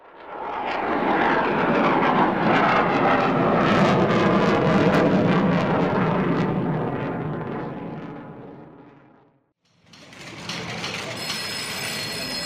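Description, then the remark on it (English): A loud, roaring engine of the ship Ulysses powers up for departure from runway 9 under Titan Tower, a broad steady rumble that swells and then fades over several seconds before a brief gap and a renewed engine drone. “Titan Tower, this is Ulysses, holding short runway 9er for departure to Romeo 2, Delta 2. Ulysses, cleared for departure.”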